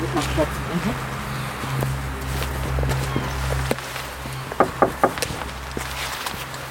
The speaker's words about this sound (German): Wir gehen vorsichtig in Richtung des Gebäudes. Ein altes Fachwerkhaus, das so aussieht, als gehörte es mal zum Kloster.